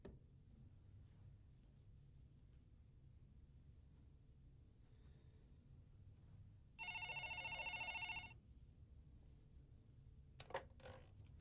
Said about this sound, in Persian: آقا صبح تا حالا پای این تلفن پدرم در اومده، هی زنگ میزنن، آدرس میگیرن ولی نمیان.